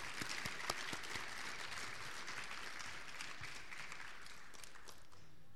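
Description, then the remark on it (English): An audience at an awards program applauds the award recipients steadily, dense overlapping hand claps forming a sustained crackling wash at even loudness that tapers slightly toward the end, with no voices. “And let's give them all a round of applause one more time.”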